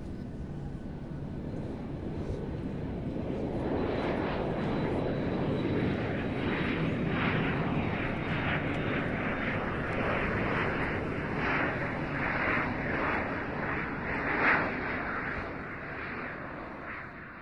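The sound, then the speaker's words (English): A steady, loud airplane engine roar during flight, a broad rumbling drone with a thin high whine running through it, holding constant throughout with no voices. “Sit back and enjoy your flight.”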